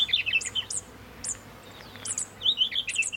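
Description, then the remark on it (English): High, rapid fairy wren song: bursts of sweet, sharply rising and falling whistles and trills at the start and end, a quieter call in the middle, heard clearly over faint background hiss. “wren chicks learn their mother's song and incorporate the password note into their begging calls”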